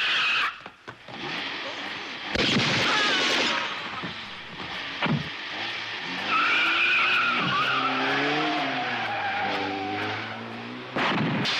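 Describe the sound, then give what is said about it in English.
A frantic car chase from an Italian crime film, with small Fiat cars' tires skidding and squealing in long, wavering screeches over roaring engines, loud, with a few sharp bursts and brief voices mixed into the chaos. “The car chases in these movies, like, they would always have amazing stunts involving Fiats, like these really tiny cars just going off ramps, catching on fire, and real people driving them, and just crazy things like that.”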